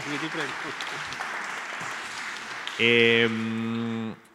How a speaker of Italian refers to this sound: Subito un applauso spontaneo dal cuore.